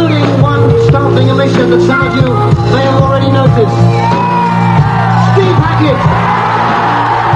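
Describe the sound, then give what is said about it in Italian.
A large crowd at a band's concert screams and cheers loudly and continuously as a guitarist is named and joins the band on stage during the first encore, many voices whooping and yelling together over a steady low hum, with no break in the roar for the whole stretch. “il pubblico urla al nome di …”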